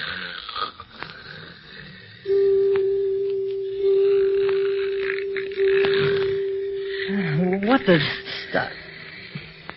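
A man snores with a long, steady whistling tone that holds for several seconds, then breaks into wobbly, rising and falling snorts near the end, fairly loud over a rumbling background.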